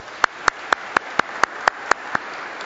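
Clapping at a Mass to welcome a seminarian, in a steady, even rhythm: about nine crisp, sharp claps spaced roughly a quarter-second apart, moderately loud, with no voices over them.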